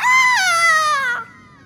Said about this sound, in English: And all you hear in the background is the ghostly sound of a chicken.